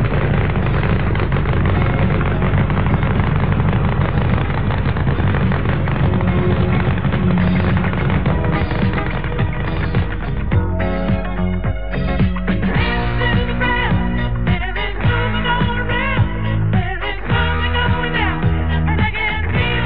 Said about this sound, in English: That's what a funny car does to your turntables.